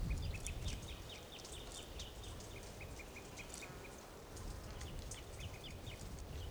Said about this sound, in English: Birds are calling a toucan nearby.